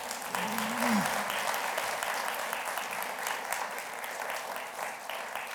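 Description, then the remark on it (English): Sustained audience applause in a church for singers, a dense steady wash of many hands clapping at an even loudness for several seconds, with a brief voice-like tone rising briefly near the start. “Let's thank these guys one more time, don't you think?”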